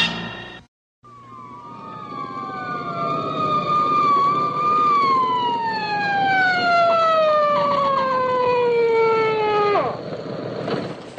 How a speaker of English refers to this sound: Sirens scare the hell out of me. Yours has been whining at me for 3 blocks.